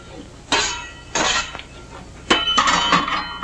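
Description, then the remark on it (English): A metal shovel scrapes and clinks against a fireplace hearth, scooping ashes in four gritty bursts, the last one longer and busier, with quiet pauses between strokes and no voices. “Sarah looks to the door, but goes back to the fireplace to shovel up ashes.”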